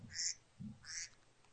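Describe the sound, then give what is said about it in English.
A phone alarm tone of duck quacks plays twice in quick succession, the nasal honks sounding faint and tinny with soft low thumps between them, and no one speaking. “Okay, I was about to say, you have the duck quacking as your ringer?”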